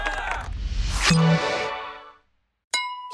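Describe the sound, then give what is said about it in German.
Coca-Cola drinking glasses from McDonald's clink together with a bright, ringing chime that slowly fades, followed after a short silence by a second sharp clink, fairly loud. “Die Coca-Cola-Gläser von McDonald's sind zurück.”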